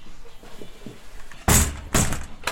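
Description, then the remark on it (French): The door of an apartment in Paris is opened on arriving home, with a sudden loud clunk and rattle, followed by a second heavy knock and a fainter bump against a quiet background. “J'ai ouvert la porte.”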